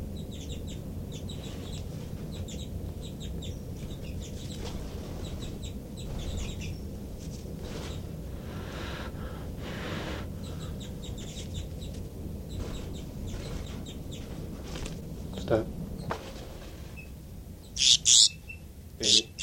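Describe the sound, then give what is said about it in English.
Sharp, high-pitched alarm calls from a baby bird repeat in quick bursts, growing louder and more insistent toward the end over a steady low rumble of background noise. “Start recording alarm calls of a baby bird.”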